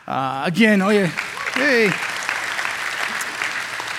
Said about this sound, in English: Hey, this is an easy crowd. You guys are clapping at everything.